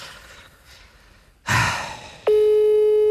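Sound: phone call ringing unanswered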